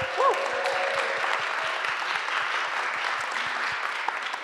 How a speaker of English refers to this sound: But for now, let's just give them another cheer.